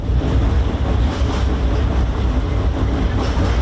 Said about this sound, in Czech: Huk tramvaja preko mosta na Savi, jednog od simbola glavnog grada, prema najavama vlasti, broji svoje posljednje mjesece.